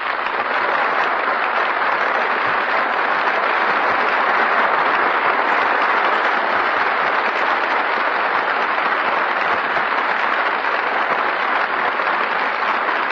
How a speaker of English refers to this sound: The applause we hear now is for our musical director, Henry Weber, as he makes his way to the conductor's stand.